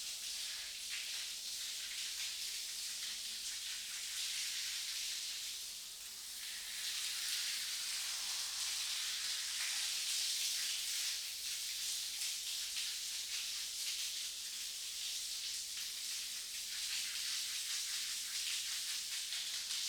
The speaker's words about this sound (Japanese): そこ座って、シャワーかけてあげる。